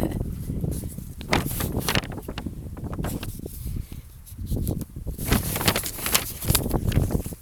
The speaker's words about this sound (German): und es ist ein bisschen windig.